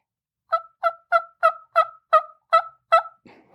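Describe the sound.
A run of eight soft turkey hen yelps played on a call, evenly spaced in a steady rhythm, clear with no talking, trailing into a faint rustle at the end.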